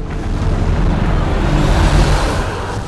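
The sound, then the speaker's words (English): The 2004 Indian Ocean tsunami slamming into a resort, from the opening of the film Hereafter: a loud, unbroken roar of churning water with a heavy low rumble and hissing spray. It lasts a few seconds, steady and overwhelming, with no voices. “A huge tidal wave, the Indian Ocean tsunami of 2004, slams into a resort where a French journalist is shopping in a street market.”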